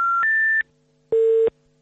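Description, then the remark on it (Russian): A number is dialed on a mobile phone in an apartment at 23:20 on 13 March: two steady electronic tones, the second slightly higher, then a pause and repeated lower, evenly spaced beeps. There is no talking. “Набирает номер.”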